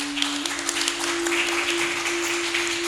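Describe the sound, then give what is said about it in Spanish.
An audience applauds a speaker after remarks on saving the Amazon, steadily for about three seconds, a dense, crackling wash of many hands clapping at once, with a constant low electrical hum running underneath. “Un aplauso.”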